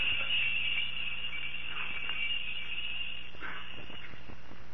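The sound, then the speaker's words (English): Bells ring continuously and brightly, a steady, shrill jangling that fills the whole stretch without pause. Nobody speaks over it. “Ooh, those bells give me a headache. Think I'll put in a buzzer.”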